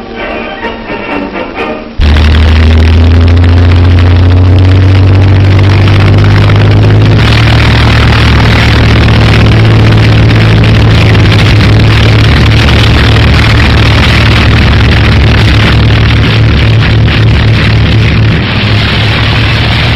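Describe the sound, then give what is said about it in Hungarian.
German military aircraft engines drone loudly and steadily during an attack on England, after a brief muffled opening, a thick continuous roar whose pitch shifts slightly partway through, with no voices. “Német repülőgépek támadása Anglia ellen.”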